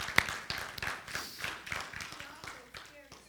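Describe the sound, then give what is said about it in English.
A crowd claps together in appreciation of a speaker's message from the previous week, a steady patter of many hands that holds at moderate volume for a few seconds and starts to taper toward the end, with faint voices mixed in. “If you appreciate that message, just give him a clap.”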